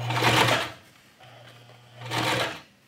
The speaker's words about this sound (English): the wardrobe supervisor, sits at the sewing machine like she lives in front of it.